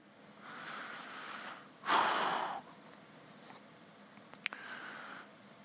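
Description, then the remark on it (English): A man's voice imitates desperate panting, with a few breathy exhales and one sharp, loud gasp in the middle, followed by a short sniff, unaccompanied by speech. “Drink or die. That kind of panting.”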